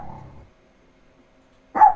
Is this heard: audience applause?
no